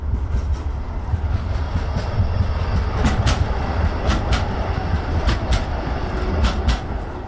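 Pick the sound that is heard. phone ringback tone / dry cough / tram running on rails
tram running on rails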